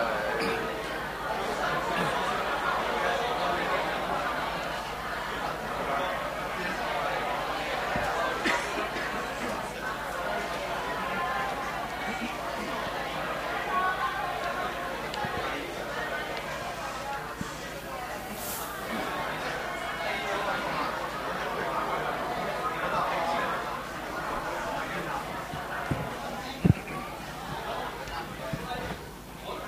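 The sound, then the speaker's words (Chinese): Members of a church audience at a Sunday worship service on 3 March greet and chat with one another at once, a steady overlapping babble of many voices at moderate loudness with no single voice standing out, lasting throughout. “好啦，喺我哋同我哋弟兄姊妹相交过之后，打个招呼之后咧”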